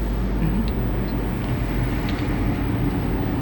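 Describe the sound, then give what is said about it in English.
A government truck drives in, rumbling with a steady, deep engine drone that stays at a constant, fairly loud level throughout, with faint higher rattles and no voices. “now here's one of your government trucks again coming in here.”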